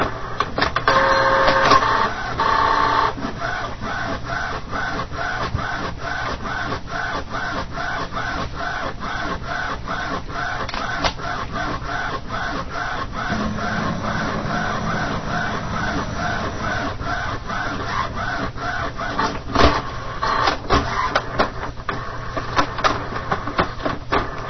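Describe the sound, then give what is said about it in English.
A printer scans a page to make a standalone black-and-white copy, a steady mechanical whir with rapid, regular clicking and stepping, with a few brief electronic tones near the start and no one talking. “The scanner has started scanning. I hear it underneath.”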